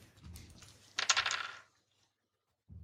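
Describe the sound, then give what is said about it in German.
A quick clatter of dice thrown and tumbling across a tabletop, a burst of rapid clicks that lasts about half a second and settles into quiet. “Nee, weißt du, wir machen jetzt einen Wurf für die Hörer und für nächstes Mal besorge ich mehr Würfel, weil sonst haben wir zu oft die gleichen Ergebnisse und das ist dann langweilig für mich.”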